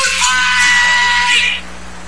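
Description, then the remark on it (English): John Belushi lets out one loud, harsh, sustained yell lasting about a second and a half, strained, before it cuts off and leaves only a faint low hum. “Two guys who get a little emotional when they hear John Belushi yell.”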